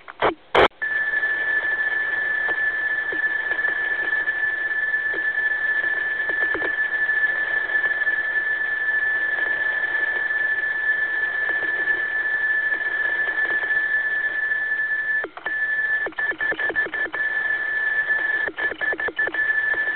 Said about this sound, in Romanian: Se pare că tonul de 2 kHz îi face plăcere deosebită prietenului nostru, nicio problemă.